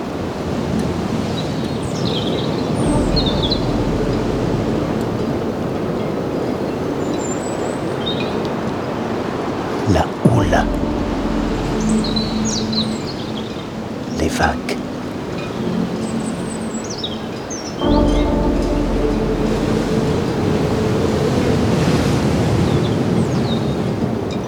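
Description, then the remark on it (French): Steady, loud wind roars over a low wash of ocean surf below granite cliffs, with a couple of sharp gusts buffeting the microphone and faint bird chirps flickering high above. No one speaks. “Du vent, un oiseau.”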